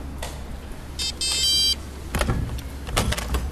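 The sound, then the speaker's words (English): An electronic lock on the front door of a shared house gives a short series of high, steady beeps as it is unlocked by a microchip implanted under the skin of a hand. A mechanical clunk and rattling clicks follow as the latch releases and the door swings open, over a low background hum. “Wow, okay, so you just opened the door with your hand.”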